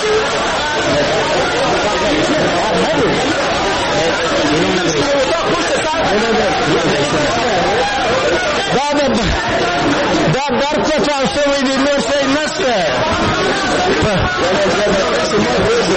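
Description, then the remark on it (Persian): A crowd of lawmakers noisily rushing out of Afghanistan's National Assembly in Kabul after an explosion shattered the glass of its media office: a dense, steady babble of many overlapping voices and commotion from start to finish, loud with no pauses. “شیشه های مقابل من در دفتر رسانه های شورای ملی از هم پاشید و نمایندگان مردم که آن طرف همین شیشه قرار دارند با سر و صدا از مجلس بیرون می شتابند.”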